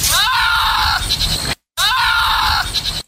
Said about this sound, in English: That's a goat. Oh, my God. Can you imagine living next door to this farmer and the goat makes this kind of noise?